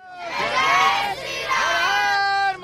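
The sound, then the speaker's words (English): A young group of Hindus shouts together in loud, energetic bursts, chanting "Hail Lord Ram" in unison with rising and falling pitch, with no pause over about three seconds, near the site in Ayodhya where a grand temple to Lord Ram is being opened. “Hail Lord Ram, a young group of Hindus shout near the site where a grand temple is being opened for one of Hinduism's biggest deities, Lord Ram, at the spot where they believe he was born.”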